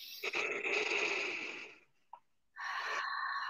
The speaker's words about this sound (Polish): Weź głęboki wdech i wydech.